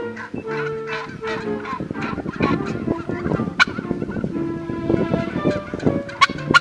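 turkey gobbling

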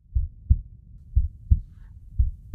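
heartbeat pulse

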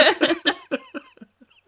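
woman coughing

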